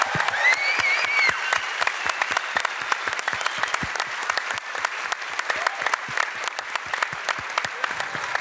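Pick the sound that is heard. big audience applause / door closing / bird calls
big audience applause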